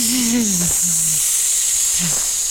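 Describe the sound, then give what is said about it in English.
A person makes a long, steady snake-like hiss, loud, with a few brief low voiced sounds breaking in near the start and again toward the end. “Stop hissing. I'm a snake.”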